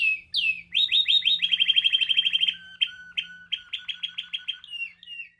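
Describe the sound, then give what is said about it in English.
Loud, rapid chirping of caged show birds being judged at a bird show fills the space, a dense run of high tweets and trills followed by sharper separate chirps, with no talking. “And if your bird's too loud, well, please. You just need to breed some quieter birds.”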